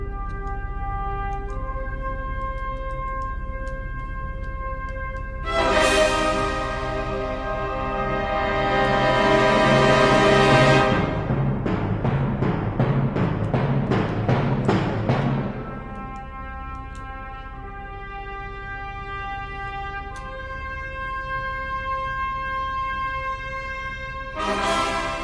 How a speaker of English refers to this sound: Zommers, very dramatic on the bumper music.